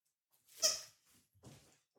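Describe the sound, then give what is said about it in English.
Two quick squeaks from a dog's squeeze toy, the first sharper and louder, the second softer and raspier, with brief silence around them and no talking. “I got that squeak toy for my dog.”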